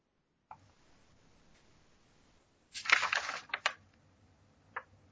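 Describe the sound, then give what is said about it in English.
Loud paper rustling and crinkling as paper is moved beside a sensitive microphone at a meeting, a burst of about a second with a few sharp handling clicks before and after, with no talking. “your microphone is so sensitive that anytime you move your paper, you get lit up.”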